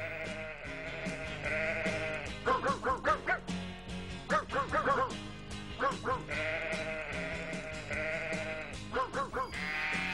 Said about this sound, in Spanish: Impresionante la voz de los perros aquí en El Sentir de Ser Animal. Tenemos otro más lindo todavía, Paspati. A ver, vamos a escucharlo, a ver.